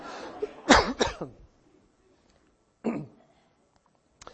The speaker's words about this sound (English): You can remember it's summer, right? Because my voice gets this way as summer allergies kick in. You'll bear with me as I hack a little bit. Yeah, you don't cough. You don't get to cough just because I'm coughing.